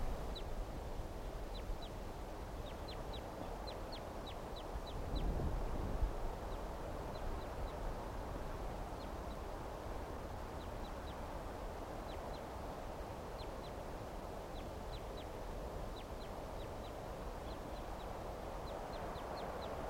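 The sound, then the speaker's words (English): Duck flight calls: short, high, thin notes given in quick clusters of two to five, repeating irregularly throughout over a steady low rushing background noise. “Giving flight calls now.”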